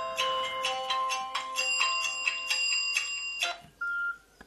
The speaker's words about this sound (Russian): У них свой будильник. О, зазвонил будильник. Теперь совершенно официальный подъем. 5 часов. Закрываем будильник.